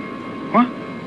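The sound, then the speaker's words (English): A steady airplane engine drones evenly throughout, a constant mechanical hum with a faint high whine, and a brief vocal sound rises over it midway. “Damn motor is still running.”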